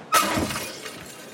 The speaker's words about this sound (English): You jump at the sound of glass shattering and search for the source.